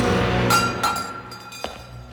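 A goblet, taken from the altar and drained by Barkis, is tossed aside and clatters, giving a few sharp, bright clinks spread over two seconds, with a thin ringing tone lingering between hits and no voices.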